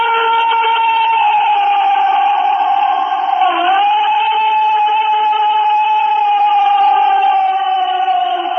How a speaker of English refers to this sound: Well, I've got a couple of sounds that are said to be Bigfoot. All right, if you want to play them. Have you ever heard them? Oh, yes. You've heard them? Scream and talk. Exactly. Listen. This is the first one. I think it's a little less credible.